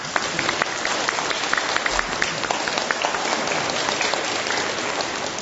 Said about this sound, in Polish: w tym miejscu gorącymi oklaskami chcemy księdzu proboszczowi podziękować.